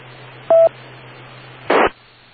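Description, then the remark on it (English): A short, clear electronic telephone tone of an incoming phone call beeps once over a faint steady hum, followed a moment later by a brief burst of static-like noise. “Give me a moment. I got a phone call.”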